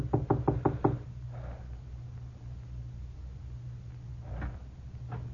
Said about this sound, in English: I made sure no one was following me and knocked on the door.